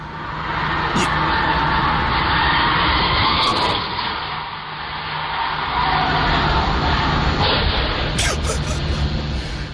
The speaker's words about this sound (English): This is a Ring doorbell in the neighborhood. You see the car, her blue Mini Cooper, goes by like a blur, and then you see the car whiz by from the Ring doorbell on the street, and then you hear the crash of her bashing through the house. Listen.